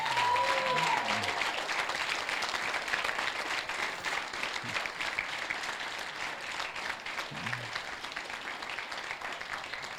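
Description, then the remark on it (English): A church audience, standing on its feet, cheers and applauds, dense steady clapping filling the whole stretch with a few whoops and shouted voices rising over the noise, loud and sustained without a break. “So could we just stand to our feet for a minute and cheer for these guys,”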